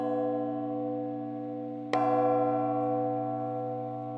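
A large church bell of Magdeburg Cathedral, Germany, cast in 1575 and recently repaired, not yet rehung in its belfry, hums with a deep, sustained resonance, then is struck once more near the middle, a bright metallic clang blooming into long ringing overtones that slowly decay.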